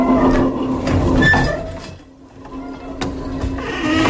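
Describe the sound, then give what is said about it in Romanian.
A noisy tram rumbles along with a steady low hum and grinding mechanical clatter, broken by a brief metallic squeal and a few sharp clanks before the roar swells again. “Ale, Doamne, și ce zgomot infernal face și tramvaiul ăsta.”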